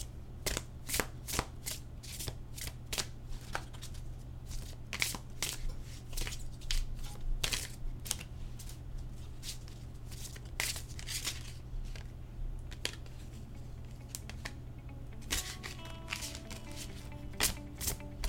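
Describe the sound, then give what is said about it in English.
Tarot cards from the Somnia tarot deck being shuffled, a rapid series of sharp papery snaps and riffles over a steady low hum, ending with a few slower slides as a single card, the Tower, is pulled from the deck. “And I'm just going to go ahead and shuffle and pull a card.”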